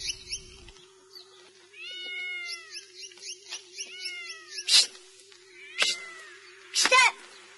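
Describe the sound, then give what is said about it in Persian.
A cat in the garden of a boarding-school courtyard meows in two bursts of short, rising-and-falling cries, followed by a few sharp, noisy hisses or scuffles as a stone is thrown toward it, all over a faint steady hum. “سنگی به طرف گربه پرت میکنه.”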